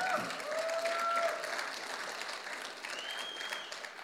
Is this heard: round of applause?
yes